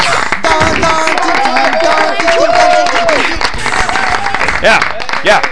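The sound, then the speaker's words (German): A short burst of applause and crowd noise for the weekly top 10 video game charts fills the short stretch, dense and steady, with voices cheering and calling out over the clapping before it trails off. “Aber bitte jetzt mal kurzen Applaus für die Top 10 der 48. Kalenderwoche.”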